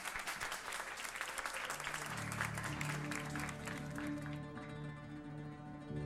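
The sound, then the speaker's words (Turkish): An audience at a stage performance claps steadily for Firuzan Hanım as dense applause fills the first few seconds, then thins out while a sustained musical tone rises underneath and carries on alone toward the end. “Alkışlar Firuzan Hanım için.”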